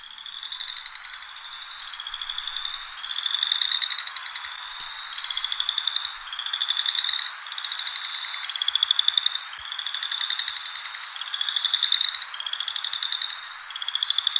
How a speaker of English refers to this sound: Let's hear the chorus of chorus frogs. Yes, because you almost never hear just one. They're always going all together.